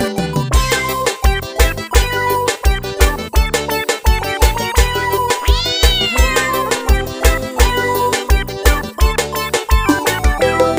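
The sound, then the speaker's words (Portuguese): Cat meows ring out in a song about a neighbour's pampered cat, over a bouncy, steady musical beat, with one long rising-and-falling meow standing out midway; the music plays loudly throughout with no speech. “A gata da minha vizinha é muito gata, muito mimada e bem fofinha.”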